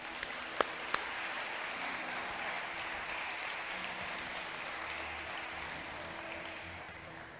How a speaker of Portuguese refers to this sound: Aí sim. Merece uma linda salva de palmas.